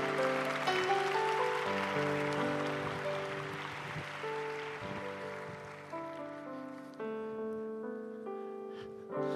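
A crowd claps steadily in a dense, rushing wash of applause over sustained keyboard chords; the clapping thins out after about seven seconds while the music carries on.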